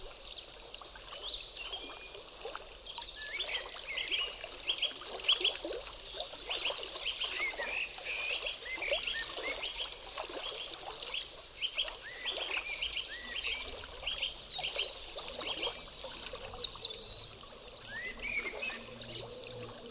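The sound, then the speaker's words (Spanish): Crystal-clear, transparent water bubbles and flows steadily for the whole stretch, a busy stream of gurgles and splashes at moderate loudness, with faint chirping creatures in the background and no voices. “Burbujeante.”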